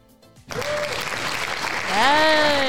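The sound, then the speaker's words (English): A hand-clapping sound effect bursts in after a brief lead-in: dense, steady applause that holds loud to the end, with a rising cheer-like whoop joining in over the final second. “You deserve a pat on the back. You deserve a hand clap.”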